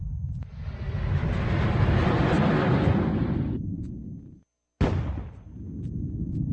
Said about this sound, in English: 3, 2, engine ignition, and liftoff of the Delta II rocket with the Mars Exploration Rover.